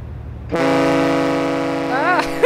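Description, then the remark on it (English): The horn of the big research ship Polar Stern, leaving the dock in Norway, sounds one long, loud, steady blast, deep and rich with overtones, holding without a break and wavering slightly in pitch near the end. “So we cast off from Norway, and this is what it sounded like when the Polar Stern left the dock.”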